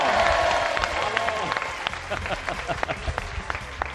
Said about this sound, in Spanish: ¡Ánimo por el aporte! ¡Vamos! ¡Un aplauso!